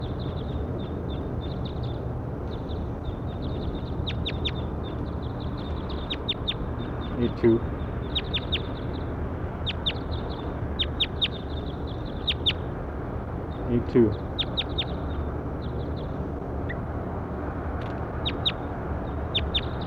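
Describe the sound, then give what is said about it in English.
High-pitched calls from a bird labelled 8-2, at which the recorder is pointed, repeat in quick, irregular bursts throughout, with a few sharper chirps standing out over a steady low rumble of background noise. “Pointed at bird 8-2.”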